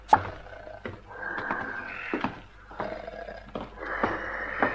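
Loud snoring of a sleeping wolf in a fairy tale, slow repeated rasping breaths, each drawn-out cycle rising and fading, with a few sharp clicks scattered between them and no talking.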